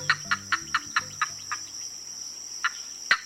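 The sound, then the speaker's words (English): A green heron, a small, secretive, chunky, short-legged heron about a foot and a half long, gives a quick run of about eight short, evenly spaced clucking notes, pauses, then adds two more, all over a steady high-pitched insect drone. “But this stately bird has a much smaller and more secretive relative, the green heron.”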